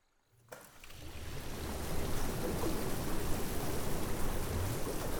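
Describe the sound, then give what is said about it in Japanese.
Bath water in the Undine bath bubbles and churns as jets, made using water mana, switch on, starting from near silence and swelling into a steady rushing froth that continues without pause. “はい、このウンディーネの湯では水のマナを利用して気泡やお湯の流れを作り出すことができるんです。”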